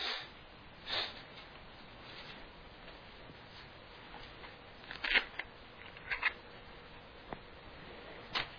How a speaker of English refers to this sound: Y'all are turning pages.